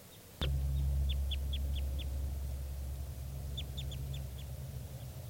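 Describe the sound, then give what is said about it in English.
Type 2 red crossbill calls from a wild bird among birds foraging in a lodgepole pine: two quick bursts of about five sharp, high 'kip' notes each, heard over a steady low rumble that begins with a click. “I'm not sure, but I hear type 2 calling, and I'm not sure if it's 387 or one of the wild birds.”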